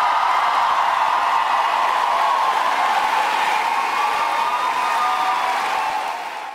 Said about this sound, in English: Crowd really getting into it last night in La Crosse, Wisconsin, as Vice President Harris was there.